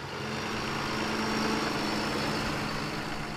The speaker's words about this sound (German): Da fährt der Traktor weg.